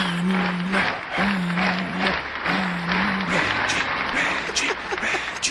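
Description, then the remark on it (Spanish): Loud, continuous applause from a crowd fills the whole stretch, a dense clatter of many hands, with a low droning tone repeating in short bursts underneath. “Mira, este es el aplauso, ¿viste?”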